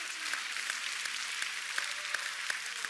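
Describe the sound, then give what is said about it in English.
An audience in Philadelphia clapping their hands in praise in a steady, rhythmic beat, with sharp claps rising above a dense, continuous wash of crowd noise. No one speaks. “Come on, let's use those hands to clap to the King of glory.”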